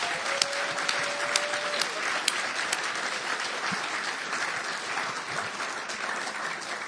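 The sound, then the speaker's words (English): An audience bursts into steady applause for educators, dense overlapping clapping holding at an even level for several seconds, with a brief faint whistle early on and a few sharper claps standing out. “Can we give our educators a round of applause?”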